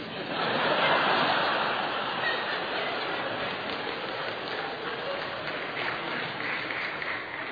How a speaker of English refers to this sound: Are you clapping for me or for my son? Just make that clear first, okay?